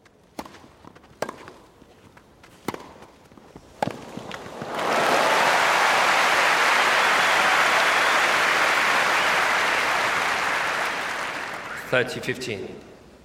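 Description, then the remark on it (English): A few sharp, isolated knocks, then a sports crowd erupts into loud, sustained cheering and applause that swells for several seconds before fading, with muffled voices near the end. “So when you're in the middle of a cheering crowd, when it's been recorded well, the surround really involves you in the play, if you like.”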